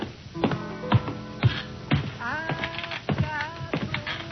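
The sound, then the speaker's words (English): Steady footsteps thud on wooden stairs, climbing a couple of flights around the back of a building to a loft, roughly two hollow knocks per second, with a few squeaky, wavering creaks rising between the later steps. “I felt my way out around back and up a couple of flights of stairs that didn't creak in time with the music.”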